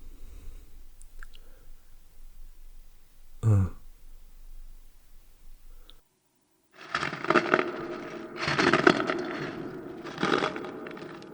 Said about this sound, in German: Haben Sie das auch gehört? Doch, da knirscht doch was. Bei der Tür. Ich guck mal nach.